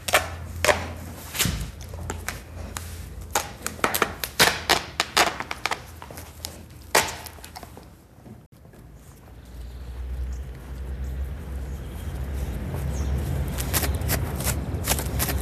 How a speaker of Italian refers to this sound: Ecco, lo senti? Questo suono somiglia al mordicchiamento per le pulci. Ma se sai che il cane ha i punti di sutura o una fasciatura, questo suono vuol dire che la bestia è insofferente e se li sta strappando.